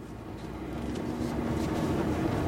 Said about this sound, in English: Back in the truck and further along